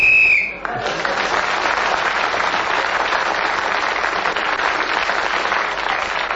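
A single sharp, high whistle blast sounds for about half a second to end a round of a game, then is immediately swallowed by loud, steady applause from a crowd that continues to the end.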